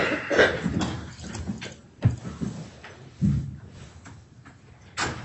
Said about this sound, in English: Okay, it always takes a minute longer for that door to shut than I think.